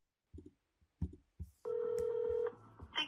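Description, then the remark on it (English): A telephone call to Trudeau's media line in Canada, placed by Tucker Carlson: a few short bursts of dialing sounds, then one steady, buzzing ring tone lasting under a second, with no one speaking. “This is Tucker Carlson calling Trudeau before Tucker went up there for this massive rally.”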